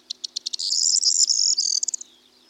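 A corn bunting sings a short song: a few quick, accelerating ticks that run into a bright, jangling trill like a shaken bunch of keys, clear over a faint low hum.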